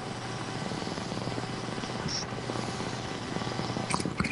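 Someone takes a hit from a water pipe (bong) with tobacco: a steady, rapid low gurgle for several seconds, a continuous fluttering rumble with a few sharp clicks near the end and no one talking.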